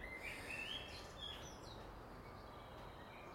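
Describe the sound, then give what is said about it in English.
A few faint, fluty blackbird phrases rise and fall over a steady wash of background hiss, with short whistled notes clustered near the start and a softer trace midway. “Is there anything nicer than blackbird's song?”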